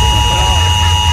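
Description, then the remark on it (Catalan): A steady, loud electronic alarm buzzes without a break, its harsh high tones holding an unchanging pitch over a low, rumbling hum throughout. “És que aquesta alarma invalida totes les zones sonores que hi hagin al voltant.”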